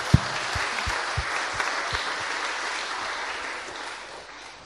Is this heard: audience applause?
yes